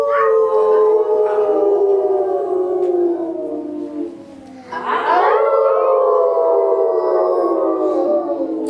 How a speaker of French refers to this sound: Et c'est depuis ce jour que l'on dit partout que les loups hurlent à la lune. Mais ce n'est pas vrai. Les loups ne hurlent pas à la lune. Ils chantent pour la lune, pour lui rendre hommage.